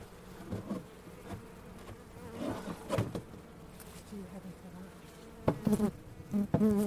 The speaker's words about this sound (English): So I can't see many bees. There's a few bees at the top. Let's have a look.